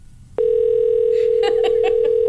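A steady, low-pitched telephone dial tone switches on abruptly, then a quick run of about five or six keypad beeps sounds over it as the number of a car dealership is dialed again.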